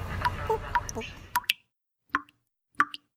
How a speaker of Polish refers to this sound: Takie kapanie wody. Nie lecenie takie szybkie, tylko takie...